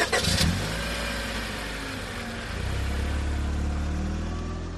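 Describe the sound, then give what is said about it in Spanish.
A car engine hums steadily at a low pitch as the vehicle drives out of Barcelona toward the Prat area, with a brief burst of noise at the start and the engine note rising slightly as it speeds up. “Salgo de Barcelona y ahora sí me dirijo a la zona del Prat.”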